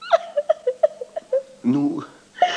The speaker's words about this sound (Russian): Машу, не плачь, Машу, мне учиться надобно.